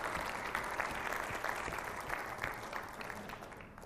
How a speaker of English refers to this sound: Last one, any great grandfathers? All right. Well, let's give them a round of applause then.